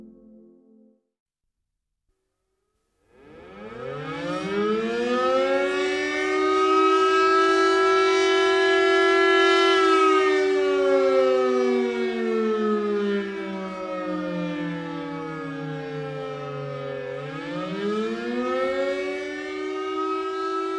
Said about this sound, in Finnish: jos kuulet hälytyssireenien äänen, niin tiedätkö minne mennä suojaan?